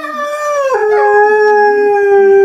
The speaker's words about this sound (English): Those hounds are baying.